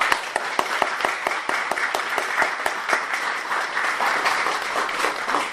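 An audience at an event held at a temple applauds steadily to send off the performers at the end, many hands clapping in a dense, even patter with a few sharper individual claps standing out, sustained at a fairly strong level throughout with no talking over it.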